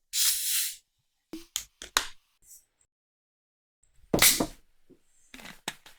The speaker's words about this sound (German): Also, ich gieße es mal ein.